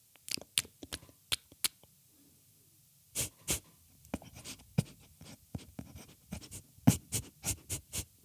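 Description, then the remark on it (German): A hedgehog snuffles and huffs in a garden at night in quick, irregular bursts of breathy, hissing sniffs, pausing briefly before a busier stretch of snorts and puffs against a quiet night background. “Wenn es nachts im eigenen Garten so schnuffelt, schnauft, keucht und faucht, würde man meist, oder zumindest meine Kollegin Karin, etwas Gruseliges vermuten.”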